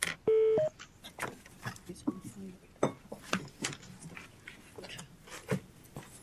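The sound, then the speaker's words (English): A single loud, brief telephone keypad tone sounds near the start, followed by a series of scattered sharp clicks and crackling noises, as a caller is connected to a phone conference. “Please state your name and then press the hash or pound sign.”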